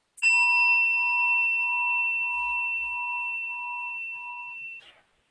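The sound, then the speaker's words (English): A gong is struck once and rings with a clear, bright metallic tone that sustains for several seconds, fading slowly before being cut off. No voices accompany it. “Let's do a gong, I brought one.”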